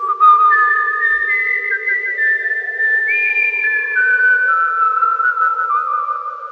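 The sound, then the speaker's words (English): A person whistles a slow, steady tune of long held notes that glide and step between pitches, fairly loud, with no talking, over a soft breathy hum for about six seconds. “My tune, my favourite tune. The one that goes like this, said Jason, and he whistled.”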